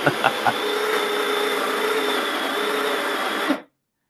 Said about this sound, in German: dass es richtig den Zuhörern die Ohren rausfliegen, wenn die Mühle mahlt